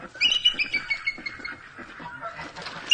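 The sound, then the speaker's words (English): Sylvia, a one-winged bald eagle at a bird sanctuary, gives a run of thin, high-pitched chirping calls, repeated in quick bursts over a few seconds, moderately loud, with no talking. “That's Sylvia, a bald eagle.”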